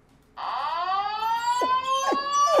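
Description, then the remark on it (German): A siren wails in a steady, harmonic tone that glides slowly downward in pitch, holding loud and unbroken, while a few short falling yelps cut in over it toward the end. “Ja, ja, danke, ich versuch's, ja, aber bei einer Sirene will er immer mit.”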